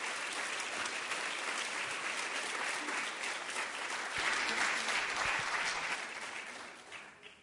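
Sustained audience applause, a dense steady patter of many hands clapping for several seconds at an even level, then fading out toward the end with no one speaking, welcoming a singer to the stage for her musical performance.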